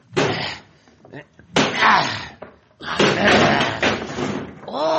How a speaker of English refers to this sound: He may not be in here, but this door is locked. I'll try to break it down.